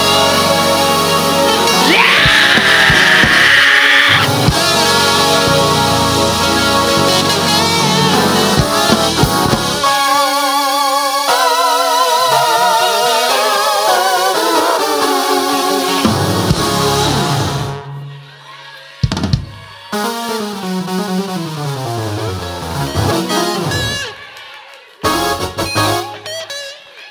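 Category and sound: crowd, audience screaming and cheering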